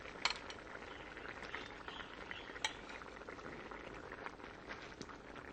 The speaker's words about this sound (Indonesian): Tunggu sampai kuahnya agak kering, baru diangkat ya. Biarkan dia mendidih dulu dengan api sedang.